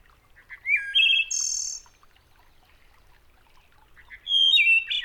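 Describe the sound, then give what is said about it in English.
A wood thrush sings two clear, flute-like phrases in an eastern deciduous forest, each ending in a bright, trilling flourish, separated by a quiet pause with faint forest background. No one speaks. “One of the most beautiful songs of the eastern deciduous forest is the flute-like melody of the wood thrush.”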